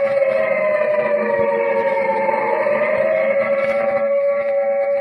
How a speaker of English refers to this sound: The siren is a musician of no value, knowing only one tune, which each time played is a disturbance of the peace.